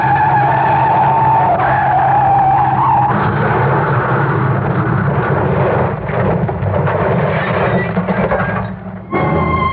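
A loud, steady car engine roar fills the whole stretch, with tonal whines rising and shifting over a heavy low rumble, and a brief dip near the end before the roar returns.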